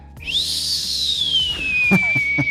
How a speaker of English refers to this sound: That's literally the sound it makes when it turns on. Nice. It's just the turbos that spin up, they spool up, and they spool down. So it's one of my favorite sounds ever.